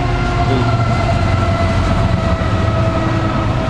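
A fast eastbound freight train rushes past, a vehicle train with one locomotive on the head end and cars loaded with automobiles; a loud, steady roar of rolling wheels and rumbling cars with a sustained metallic whine, no voices.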